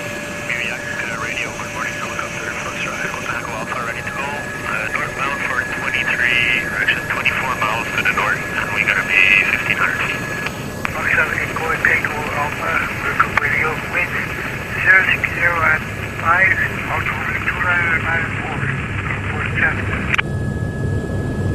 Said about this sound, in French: Et dans cet environnement, l'hélicoptère est l'un des meilleurs amis du chercheur.